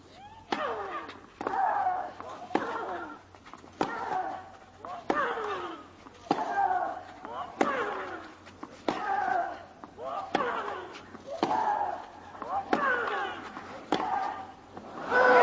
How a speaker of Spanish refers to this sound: ¿Cómo suenan esos botes de Serena Williams? Tensión. Igual que suena su saque y ese golpe en la red, se quedó el primer servicio.